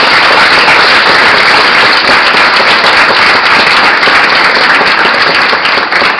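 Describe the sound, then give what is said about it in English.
Sustained applause from a crowd for four debaters at a Notre Dame debate team debate, a dense, steady wash of many hands clapping at once, loud and even throughout with no voices over it. “And on behalf of the Notre Dame debate team, I think we should all give one more big round of applause to all four of our debaters here.”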